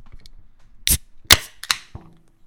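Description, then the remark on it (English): A can of Modern Times Blazing World beer, a hoppy dank amber from San Diego, is cracked open: a metallic click, then a sharp pop with a short fizzing hiss, followed by another quick snap and a soft low thud, with no talking. “Let's open it up.”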